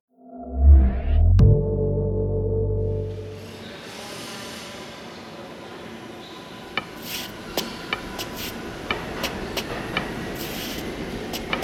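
A subway train pulls out of a station: a heavy low rumble and a sharp clunk give way to steady rattling wheel noise with intermittent metallic clicks and squeaks as it rolls away.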